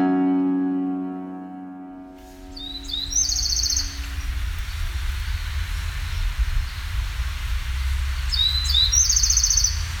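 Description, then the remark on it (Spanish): A Bewick's wren (Thryomanes bewickii), a small bird 12 to 13 cm long, sings two short, bright trilled phrases several seconds apart over a steady low outdoor rumble, after a brief sustained humming tone at the start. “Chividin coloscura, saltaparedes bihuequi, de nombre científico Triomanes bihuequi, del orden Passeriformes y de la familia Troglodytidae.”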